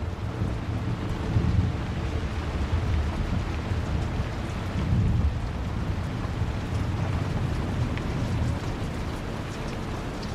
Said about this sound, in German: Trotz des tobenden Unwetters fühlst du dich hier oben vollkommen sicher und geborgen. Die dicken Steinmauern der Mühle halten den Sturm draußen.